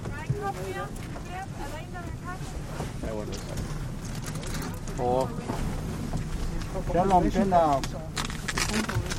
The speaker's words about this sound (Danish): Vi er i en lille båd ude på ishavet for at samle alger og vandlopper til monitoreringsprojektet